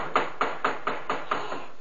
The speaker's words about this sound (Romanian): Când numai ce auziră cu toții, plin de groază, bătăi în ușa peșterii.